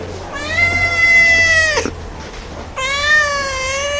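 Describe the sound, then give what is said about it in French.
Two long, drawn-out cat meows from cats in cages at an animal shelter, loud, each sliding down in pitch at the end, separated by a short pause over a low steady background hum. “On est passé chez les chats, les trois quarts des pensionnaires ici, avec un pic en été quand les félins se reproduisent”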